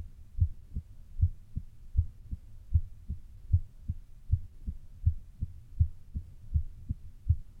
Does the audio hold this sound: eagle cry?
no